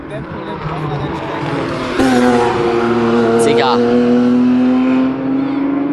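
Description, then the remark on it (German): A race car drives slowly past on a race track, its engine comparatively quiet, a steady, moderately loud droning hum with a brief rising whine midway, while a person speaks over it. “Okay, der ist actually nicht so laut im Vergleich. Nee, der ist langsam gefahren, das geht so gar nicht.”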